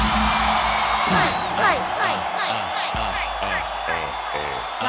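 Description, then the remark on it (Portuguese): A crowd shouts and whoops loudly in response to a performer's call to shout, a dense wash of overlapping yells and cheers that swells and holds steady throughout, with individual voices rising above the roar. “Quem é essa que ela deu porque ele é safada, dá um grito?”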